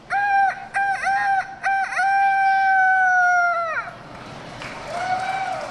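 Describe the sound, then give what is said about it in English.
A child's voice imitates a rooster crowing, loud, at a youth rooster crowing contest at the Iowa State Fair: a few short rising whoops lead into one long, sustained crow that cuts off, leaving faint crowd murmur behind. “Dozens of kids fidget and whisper as they wait for their turn at the Youth Rooster Crowing Contest.”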